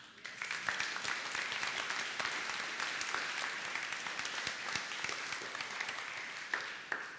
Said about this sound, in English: Will you now give a great big round of applause to God?